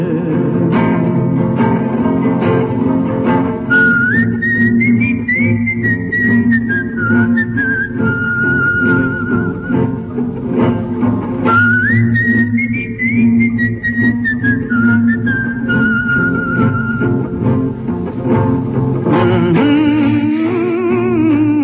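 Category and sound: human body sound, whistled melody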